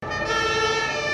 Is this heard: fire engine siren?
yes